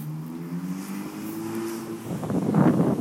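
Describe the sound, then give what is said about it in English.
A car engine hums low and steady, then swells into a louder rushing roar over the final second as a vehicle passes. No voices are heard. “It's nature and cars as well, so I ain't got really anything to do about that.”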